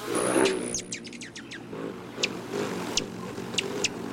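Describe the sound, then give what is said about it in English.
A rufous hummingbird gives a quick run of sharp, high chips, then a few spaced single chips. A thin whistling tone, like a wing trill, sounds at the start over a low background rumble. “Nearly all the rufous hummingbirds will begin their migration by late August, sipping their way south on high mountain wildflowers all the way to Mexico, until they whistle into our lives again in spring.”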